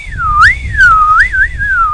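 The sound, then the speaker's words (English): A person whistles a continuous, gliding tune that swoops up and down in pitch, imitating a spinner dolphin's whistle, clear over a low background rumble. “Well, they make a lot of clicking noises, not so much in the bays, and they spend a lot of time whistling.”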